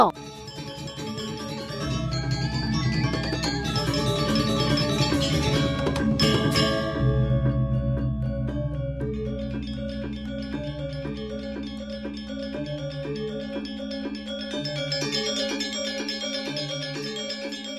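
Okokan wooden bells knock out a steady, repeating klok-klok rhythm of hollow, pitched tones, layered over a low sustained hum, playing continuously at a moderate level.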